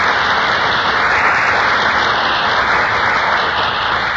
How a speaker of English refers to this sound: That burst of applause is for our two stars who just entered from the wings.